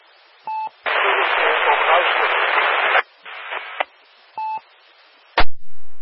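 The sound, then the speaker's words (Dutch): A very distant station heard during the Meppelronde amateur radio net, buried in heavy static, its call sign not caught: a long loud burst of hiss and a shorter noisy stretch, framed by short two-tone beeps and ending with a sharp click. “Ik laat de microfoon even iets langer los, want heel in de verte een station met heel veel ruis waarvan ik niet de call heb meegekregen.”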